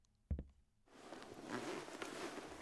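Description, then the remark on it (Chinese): A sharp click, then a sustained scratchy rasp with small jerky surges as a dress zipper caught in a person's hair is tugged and sticks. No voices. “你快过来帮我看看，裙子的拉链卡住我的头发了，我有点拉不开了。”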